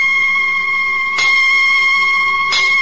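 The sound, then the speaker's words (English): Church bells, the Bow bells of London, ring out steadily, with two fresh strikes about a second apart rising over a sustained, shimmering hum of overlapping tones. Loud and resonant, with no voices. “Hark, the bow bells. How good to hear them again.”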